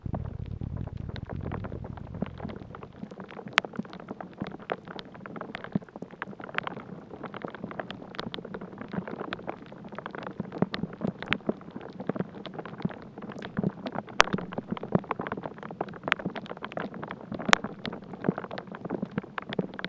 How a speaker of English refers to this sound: This soundscape is a dendrophony duo, two different sounds created by movement of water and wind inside this ash tree.